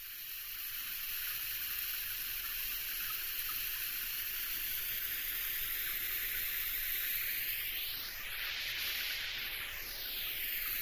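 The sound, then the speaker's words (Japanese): A shower sprays steadily for the whole stretch, rinsing off foam after a scrub, a dense hissing rush of water whose tone swirls and shifts near the end as the stream moves. “それじゃあシャワーで流していきますね。”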